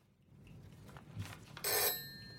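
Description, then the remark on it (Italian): A single short burst of an old landline telephone bell, the phone lying on the floor, bright and metallic, with a faint ringing tail over quiet background noise. No one speaks. “Un vecchio telefono fisso è per terra accanto a lei.”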